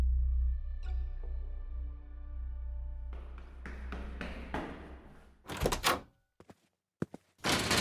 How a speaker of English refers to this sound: The door slammed shut behind me. Too hard. I hadn't closed it. It was that thing.